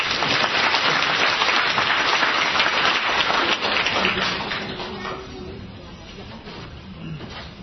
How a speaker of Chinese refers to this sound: 我们用掌声来欢迎她。